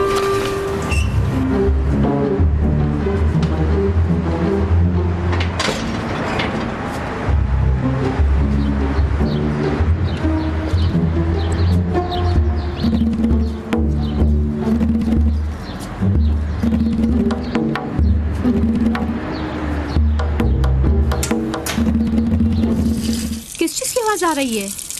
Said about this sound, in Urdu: پانی کی آواز ہے. آ گیا پانی.